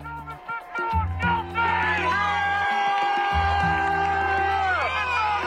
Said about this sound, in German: Jubel, Freudenschreie, Tränen der Erleichterung und Sprechchöre mit George Floyds Namen. In Minneapolis haben sich am Dienstagabend hunderte Menschen vor dem Gerichtsgebäude getroffen und buchstäblich den Atem angehalten.